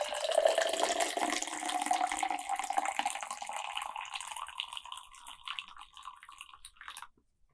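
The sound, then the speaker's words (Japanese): Black tea pours steadily into a glass for about seven seconds, a continuous trickling splash whose tone rises as the glass fills, then stops abruptly. No one speaks. “紅茶をコップに入れて、グラスに入れて、一旦冷ましておきます。”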